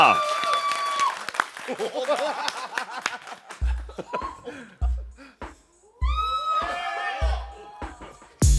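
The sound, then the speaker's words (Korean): An audience breaks into brisk clapping with laughter and excited whoops to decide on a title by applause, the dense applause gradually thinning as scattered cheers and chatter rise over a few low thumps. “자, 그럼 박수로 정해드리겠습니다.”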